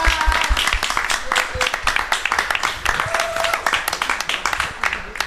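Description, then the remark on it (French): An audience applauds in thanks at the close of an event, many hands clapping in a dense, continuous patter that stays fairly loud throughout, with a few scattered voices and brief whistle-like tones mixed in. “Ouais, on peut avoir un peu d'applaudir.”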